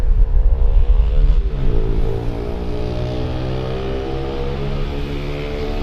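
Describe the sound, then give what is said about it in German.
A car engine hums steadily with stacked harmonic tones. Around the midpoint the pitch sweeps upward and the sound's character shifts as the car drives into or out of one of the many tunnels cut through the rock for an expressway on Madeira. “Ist die Ein- und Ausfahrt in die unzähligen Tunnels, die durch die Felsen geschlagen wurden, um eine Schnellstraße zu errichten.”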